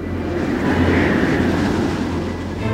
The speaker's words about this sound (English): After many days, God sends the wind.